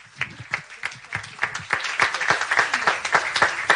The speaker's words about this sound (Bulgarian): Скъпи приятели, аплодисменти за министър-председателя на Република България, господин Бойко Борисов.